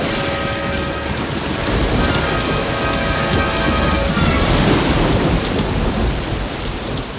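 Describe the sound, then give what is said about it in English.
Steady, heavy rain pours down continuously, with low rumbling thunder rolling underneath throughout. The storm sounds full, with no voices present. “It begins to rain.”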